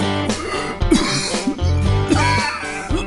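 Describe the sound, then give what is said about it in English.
A coughing fit: several harsh coughs burst out in an uneven run over a few seconds, with a steady tonal hum continuing underneath. “If you have a chronic cough, wheezing, emphysema, or other trouble breathing”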